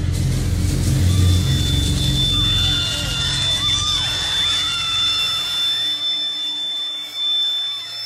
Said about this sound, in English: A neo-Nazi, James Alex Fields, slammed his car into the crowd, injuring dozens